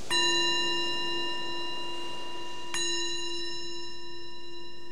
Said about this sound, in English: So we will begin with an invitation from the bell.